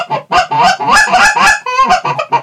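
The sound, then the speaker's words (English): A short handheld Ion Canada goose call, made for one-handed use by field goose hunters, blown in a quick series of sharp, nasal honks and clucks, loud, with a rapid choppy rhythm over about two seconds and no talking. “And I say goose call, Canada goose, the original goose.”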